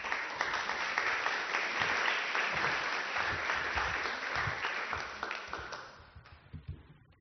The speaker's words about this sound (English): So please, a round of applause for them coming to the stage.